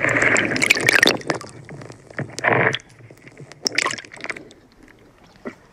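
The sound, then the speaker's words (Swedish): Water lapping and sloshing in Stockholm's southern archipelago, heard through a hydrophone at a jetty, in irregular bursts of gurgling splashes, louder at the start and again midway, settling into softer drips and clicks, with no voices. “Man hör lite vågskvalp och lite från bryggan här.”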